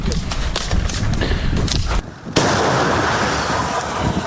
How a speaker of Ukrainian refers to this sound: Це на передовій, поблизу передової відбувається доволі швидко. Гармата перебувала на чергуванні, раптово отримала наказ на відкриття вогню.